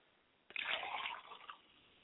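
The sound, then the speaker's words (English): Liquid is poured out as a libation for the speaker's late father, in a short, splashy stream lasting about a second after a brief quiet moment, fairly soft, with no voices. “I pour libation for my father, and I say, Ashe.”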